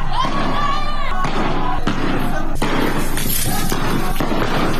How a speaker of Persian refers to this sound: در استان سیستان و بلوچستان مردم در شهرهای خاش، ایرانشهر و زاهدان به خیابان آمدند که در ایرانشهر با شلیک گلوله نیروهای امنیتی اعتراضات به خشونت کشیده شد.